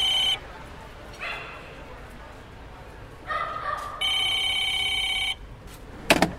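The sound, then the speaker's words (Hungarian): An old-fashioned street telephone rings in several bursts, one long sustained ring among shorter ones, over a constant murmur of a crowd at a busy, crowded spot in Budapest, with a sharp clatter near the end. “A tömegeket vonzó helyszín emberektől hangos, melybe olykor belevegyül a régi időket felelevenítő utcai telefonzaja.”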